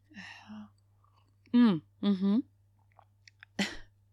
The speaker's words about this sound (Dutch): Ik pak even een slokje van mijn thee.